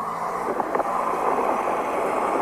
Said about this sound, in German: Das ist Wind. Ja, jetzt höre ich nur Wind.